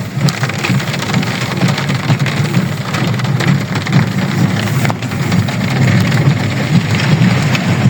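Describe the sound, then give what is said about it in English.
Heavy rain pours down steadily onto the dirt road leading to a house, a dense, loud, continuous hiss of drops with a low rumbling undertone and no voices. “But I'm going to show you a quick video here of what sometimes it looks like when it rains.”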